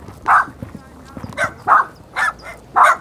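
animal, dogs yapping and barking

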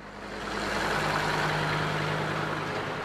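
vehicle, tractor engine passing by

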